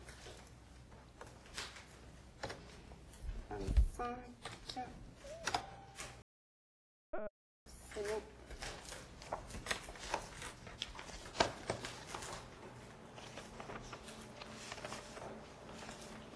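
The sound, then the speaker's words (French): Busy rustling and clicking as paper is handled and a printer prints a document, with short mechanical ticks and shuffles throughout and a brief pause midway; a voice speaks a few words. “Je vais imprimer le papier.”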